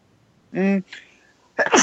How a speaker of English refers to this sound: Bless you. Thanks, man. I sneezed.